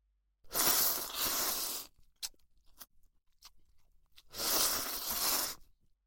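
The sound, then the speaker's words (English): Two long, loud, airy slurps of ramen noodles eaten with chopsticks, each lasting over a second, separated by a few short wet clicks and smacks. No one speaks. “Now feel free to grab the chopsticks and start slurping the noodles.”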